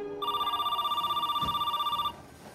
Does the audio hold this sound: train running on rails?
no